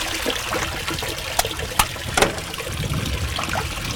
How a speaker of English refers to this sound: I'm gonna dunk him back in the water there.